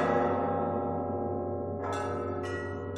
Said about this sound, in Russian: Над монастырским холмом надсадно всхлипывал маленький колокол.